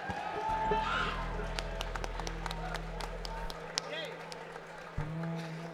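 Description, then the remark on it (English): An audience at a band's live performance applauds with a steady patter of many hands and a few sharper individual claps standing out, holding at a moderate level for several seconds over a low electrical hum. “Let's give them a really nice round of applause for having us all here for such a great time.”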